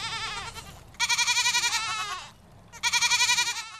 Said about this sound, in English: And you get to play with baby goats.